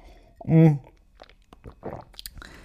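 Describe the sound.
A sip of tea, with a brief voiced hum followed by soft wet mouth clicks and a swallow, quiet and intimate.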